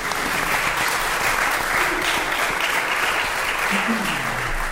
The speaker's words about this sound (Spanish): ¡Un aplauso para el ordenador!